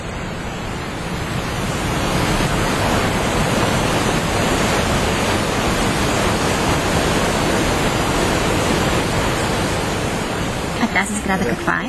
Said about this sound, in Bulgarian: Звуците на бързите са най-добри там, под моста, където са застанали хората. Там са и водопадите.